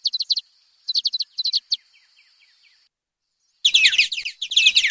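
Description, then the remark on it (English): Birds singing: bursts of quick, high chirps repeat in short clusters, then a denser, louder stretch of overlapping twittering fills the end. No voices are heard. “The birds are singing.”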